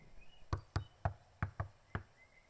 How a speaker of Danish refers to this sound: Nu går vi ind. Indenfor på bondegården. Vi går hen over gårdspladsen. Og banker på.